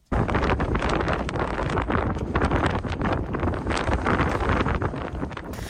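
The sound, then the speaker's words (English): Strong wind at a glacier in West Antarctica buffets the microphone outdoors in a continuous loud roar, with gusty surges and rumbling low-end blasts throughout and no voices. “Windy, I think we can deduce from that.”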